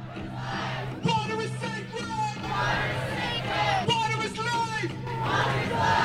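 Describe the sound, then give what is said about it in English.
Hundreds rally outside the Supreme Court in support of the Chippewa of the Thames and the Clyde River Inuit during a joint hearing in November, many voices shouting and cheering together in loud, overlapping bursts, rising and falling in waves over a steady hubbub of chatter. “Hundreds rallied outside the Supreme Court in support of the Chippewa of the Tams and the Clyde River Inuit during the joint hearing in November.”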